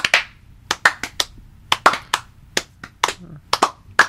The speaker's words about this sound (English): Slow clap. Hey, give everybody a slow clap.